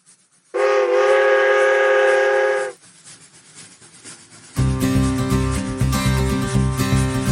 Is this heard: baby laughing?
no